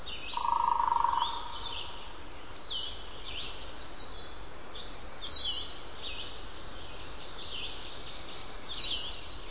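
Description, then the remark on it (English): Warblers and vireos sing faintly in an old-growth hardwood forest in North Carolina, with short, scattered song phrases rising over a steady hush of woodland ambience. No one speaks. “to an old-growth hardwood forest in North Carolina, where warblers and vireos sing and woodpeckers drum.”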